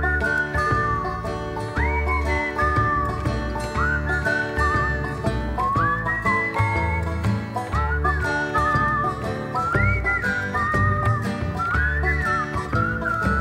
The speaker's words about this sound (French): En plus, il siffle vachement bien.